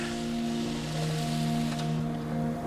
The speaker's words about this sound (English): All new traps. Not bad, huh? But they got wax all over them. So we pour it off.